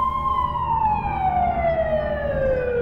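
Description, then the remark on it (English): An emergency vehicle siren wails loudly and steadily, its tone sliding slowly downward as if the vehicle is passing by, over a low rumble of road traffic. “Then I heard sirens, and I thought, I'm just going to run back to the house because, thank God, the police are finally here.”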